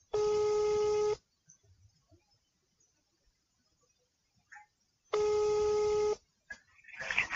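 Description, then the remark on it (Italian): A phone number being dialed: two loud, buzzy electronic tones, each lasting about a second, separated by a few seconds of near silence, followed by faint rustling and clicks. “Fammi vedere dall'elenco, aspetta che faccio il numero.”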